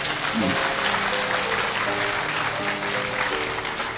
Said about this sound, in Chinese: 好，我们谢谢这位朋友，给他鼓掌一下。